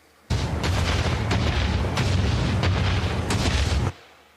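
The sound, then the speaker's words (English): Heavy, booming footsteps of the Stormgate Guardian, a huge creature charging at the character in the video game Elden Ring, about five deep thuds landing in a steady rhythm over a loud, continuous low rumble that stops abruptly. “So for an example, let's use the Stormgate Guardian from the game Elden Ring and listen to its footsteps and see what you hear.”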